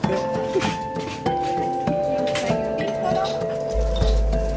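Several sharp clinks of glasses in a toast, each leaving a bright ringing tone that lingers, spaced irregularly over a few seconds against a low background murmur.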